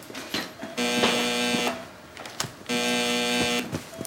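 An alarm goes off in an intensive therapy unit: two loud, harsh electronic buzzing tones, each lasting about a second with a short gap between, with no talking.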